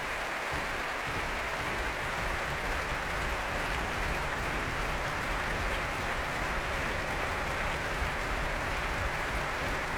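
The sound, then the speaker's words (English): Steady, dense applause from the orchestra and a packed audience at the Royal Albert Hall fills the whole stretch without a pause, with low, rumbling thuds of EUIO members stamping their feet for soloist Maxim Rizanov to return to the stage. No one speaks. “That stamping you can hear is from the members of the EUIO, who are very keen to see young Maxim Rizanov return to the stage of the Royal Albert Hall.”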